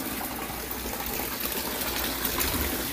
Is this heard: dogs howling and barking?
no